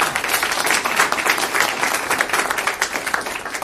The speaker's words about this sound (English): I will say that if we clap after every speaker, we'll never get out of here.